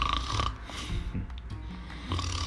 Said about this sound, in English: We can hear the faint sound of snoring getting louder and louder.